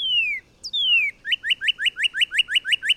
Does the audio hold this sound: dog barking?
no